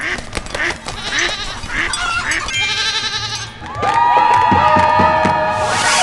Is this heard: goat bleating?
yes